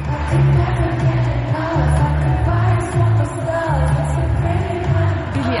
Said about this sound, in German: Und das Publikum, die Fans in Pittsburgh, konnten alle Songs mitsingen